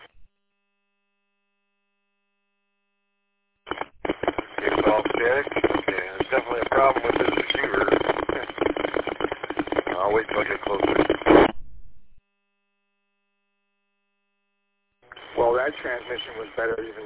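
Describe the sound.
Harsh, narrowband radio static crackles steadily for about eight seconds, cuts off abruptly, then returns for a shorter burst after a pause, with a garbled voice-like warble inside the noise.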